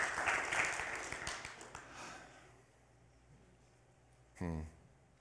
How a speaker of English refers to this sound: Why don't you give him a hand clap this morning?